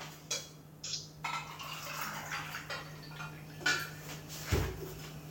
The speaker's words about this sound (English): I just wanna get some water. You hear that, guys? That's ASMR. Sound of ice cubes.